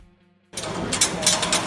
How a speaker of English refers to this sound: That's the metallic creaking sound of a life-size Ornithomimus, a dinosaur with long, slender arms, an extended neck, and bird-like facial features. It's one of 14 metal dinosaur skeletons that have taken over the museum,